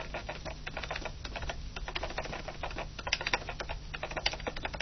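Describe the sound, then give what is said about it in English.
Rapid, steady clatter of keys being pressed on the keyboard of a Braillite 18 braille notetaker, dense overlapping clicks with a faint electrical hum underneath and no voices. “Here's the keyboard on the Braillite 18.”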